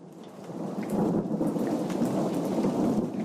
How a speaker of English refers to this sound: A thunderstorm unleashes welcome rain on Ames's parched land.